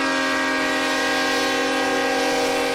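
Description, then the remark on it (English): A train carrying former commander-in-chief Bush's flag-draped coffin through the town of Navasota, in wet, soggy weather, blares its horn in one loud, unbroken chord that holds steady from start to finish, with no voices. “The journey of Bush's flag-draped coffin through Navasota by train is a rare event, the first such trip in almost 50 years.”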